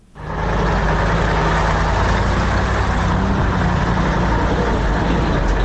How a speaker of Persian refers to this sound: سرک عمومی داخل دره سالنگ مثل همیشه شاهد تردد کاروانهای موترهای مسافربری و باربری است که ازدحام آن چشمگیر به نظر می رسد.